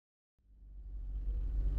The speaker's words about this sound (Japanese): お、ちょうどバスが来たみたいですよ。ケモミミランド行きのバス。お兄さん、これを待ってたんですよね。